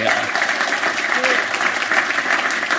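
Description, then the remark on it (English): An audience gives a round of applause for Linda Smith: a crowd claps steadily, a dense, even patter of many hands that holds at the same loud level for the whole stretch, with no voices standing out above it. “Let's have a round of applause for Linda Smith.”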